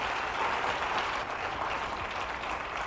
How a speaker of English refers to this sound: How many say amen? Oh, give the Lord a good clap offering.